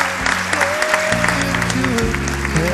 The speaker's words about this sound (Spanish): Yo no creo que esté escuchando la radio, bueno, pero por si la está escuchando o para cuando se recupere, por favor, os pido un aplauso para Rafa Panadero, con todo el cariño del mundo.